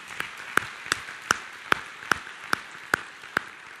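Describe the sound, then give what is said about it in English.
Steady, evenly timed clapping from a church audience, a round of applause for the volunteers in service, about nine sharp claps roughly half a second apart, with no talking and only a faint background hiss between them. “And so for all of our volunteers, let's give a round of applause to the volunteers who are in service.”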